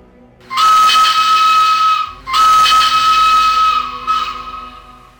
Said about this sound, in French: Merde, un train. À couvert, vite, à couvert.